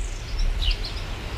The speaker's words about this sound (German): Still ist es auf dem Pfarrhof. Nur Vogelzwitschern und ein paar blökende Schafe von nebenan sind zu hören.